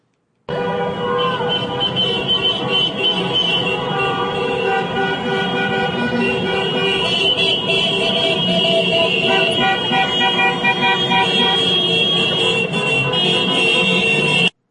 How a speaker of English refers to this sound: Not only were there thousands of people who had stormed into the Wisconsin Capitol building, but we also have audio of cars driving around the Capitol building, honking to, well, it's what they're honking is, this is what democracy looks like.